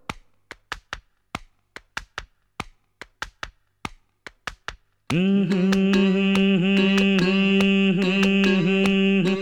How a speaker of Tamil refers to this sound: டே ரொம்ப தட்டாதடா, தாளம் தட்டுறதுக்கு என் தலையாக கிடச்சது. மெதுவா மெதுவா.